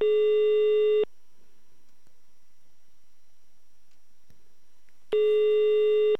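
A telephone ringback tone sounds twice while a phone call is being transferred, each a steady one-second electronic buzz, separated by about four seconds of near silence. The tones are loud and clear, with no one speaking.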